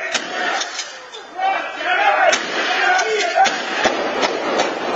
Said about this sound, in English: It's chilling, but what forensics experts hear is the gunshots, a shotgun, then a pistol.